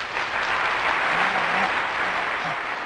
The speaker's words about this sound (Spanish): Hoy pusiste el aplauso, muchas gracias.